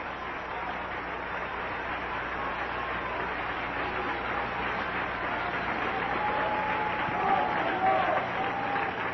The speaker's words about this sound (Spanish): Den un aplauso a Cristo, que Él se lo merece.